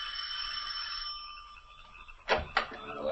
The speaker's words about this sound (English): Then, ascending the 3 stone stairs to the heavy oak door, he rings the bell.